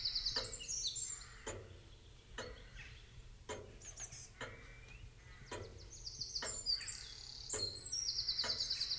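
Birds chirp and twitter steadily outdoors, a soft layered chorus of high calls, while sharp clicks tick at regular intervals. No one speaks.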